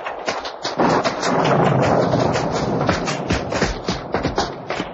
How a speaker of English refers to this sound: The rain's getting at us even through the trees.